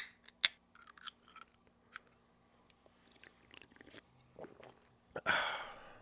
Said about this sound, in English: Let's take a quick sip break.